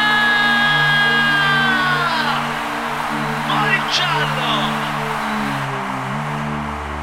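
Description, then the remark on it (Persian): An audience screams and shrieks loudly and continuously for several seconds, answering a call to scream if they had a very good time tonight; high-pitched voices overlap into a dense roar, with steady low musical tones held underneath. “اونایی که بهشون خیلی خوش گذشته یه جیغه بلند.”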